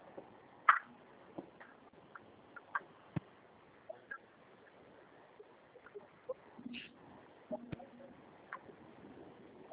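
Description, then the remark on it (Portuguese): A chicken clucks in short, scattered bursts at an irregular pace, fairly faint and muffled as if heard over a phone line, with a low background murmur. “deve ser frango.”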